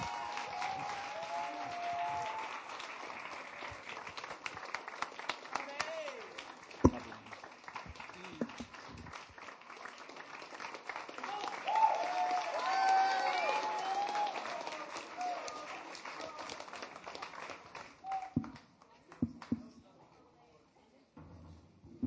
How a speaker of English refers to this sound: And so for the sake of honor, for the sake of how desperately I love this young man, can we please like stand up on our feet, give a huge round of applause